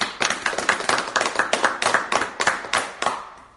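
A small group claps in a steady rhythm, about a dozen sharp, fairly close hand claps in quick succession, fading out at the end with no talking.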